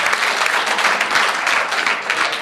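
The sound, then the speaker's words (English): An audience applauds steadily at the end of a talk, a dense wash of many hands clapping at once, fairly loud and sustained without pause, with no voices standing out above it. “And again, I ask you for a warm round of applause.”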